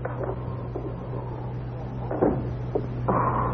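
door closing

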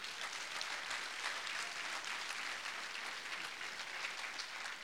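audience applauding

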